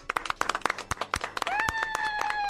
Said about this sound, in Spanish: Hoy pido un aplauso por el Día Mundial de Drácula.